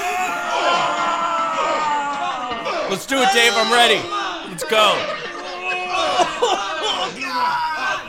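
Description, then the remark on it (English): Several people yell and scream loudly over one another, with strained, grunting shouts rising and falling. A few short spoken phrases cut through the continuous din. “The screaming and the grunting, that is something that we will address in this episode.”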